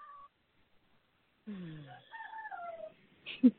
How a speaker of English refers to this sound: Yeah, Ron the rooster has come right up beside me and is cock-a-doodle doing as he does.